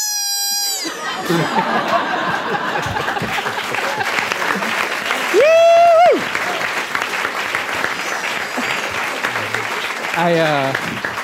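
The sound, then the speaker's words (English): A large audience applauds steadily for about ten seconds, dense and loud, with scattered cheers, crowd voices and a sharp whistle partway through. “I realized I clapped with everyone else.”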